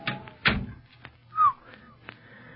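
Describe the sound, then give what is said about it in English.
A door that has been oiled opens with a pair of solid thunks and a few light clicks, moderately loud, with no drawn-out creak or squeal. “Say, that door's been oiled. Squeaked like the dickens the last time we used it.”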